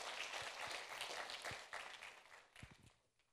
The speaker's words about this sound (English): Please remain standing as we give out the certificates and extend the right hand of fellowship to these ones, and you're welcome to show your pleasure to God and to these ones through applause.